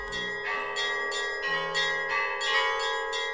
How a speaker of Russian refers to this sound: Отзвонили колокола святого Бонифация.